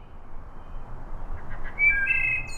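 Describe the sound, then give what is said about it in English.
A wood thrush sings a short phrase of clear, flute-like whistled notes, with one higher note near the end, over a steady outdoor background hiss; no one speaks. “Wood thrushes, as common as they are, have actually declined over 50% in the last 50 years.”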